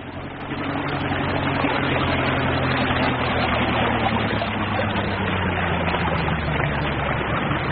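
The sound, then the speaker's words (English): A boat engine drones steadily and loud as the boat heads for an island straight ahead, its low rumble and harmonic hum holding throughout, with a slight drop in pitch partway as the craft moves along. “The island is straight ahead. I'm taking you in now.”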